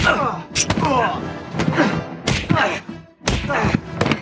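Fight sound effects: a quick, irregular run of heavy thumps and sharp whacks, four or five loud hits, mixed with strained, grunting vocal noises between the blows.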